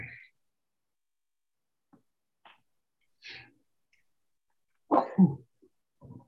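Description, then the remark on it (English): A single loud sneeze bursts out during a board meeting, after a few quiet, catching breaths, then trails off into soft sniffs. No one speaks. “Oh, I'm going to sneeze.”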